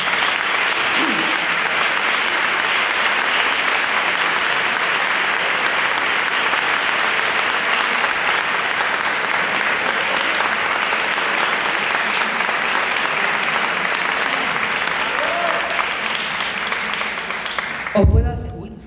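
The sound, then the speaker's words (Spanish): Sustained audience applause for two women from the Equality Service who are retiring this year, a dense, steady wash of many hands clapping that holds at an even, loud level for about eighteen seconds before cutting off abruptly. “les pido un aplauso”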